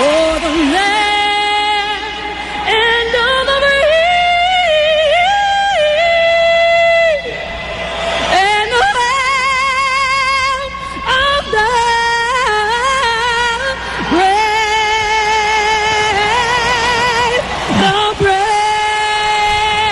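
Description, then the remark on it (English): A singer sings the Star-Spangled Banner with strong vibrato at Monday Night Football while a large stadium crowd roars and yells angrily beneath her the whole time, a loud, unbroken wall of noise. “Then it got a little angry review from the crowd.”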